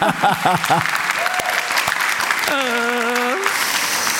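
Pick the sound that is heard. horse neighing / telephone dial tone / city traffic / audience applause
audience applause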